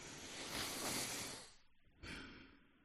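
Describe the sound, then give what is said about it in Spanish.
A long, deep breath drawn in through the nose during a guided breathing exercise, airy, swelling for over a second, followed by a short pause and a second breathy rush of air as a long exhalation. “Hay que cerrar los ojos y conectar con la respiración. Vale, quítame la música. Vamos. Vale, yo también estoy parada. Vale. Cogemos aire.”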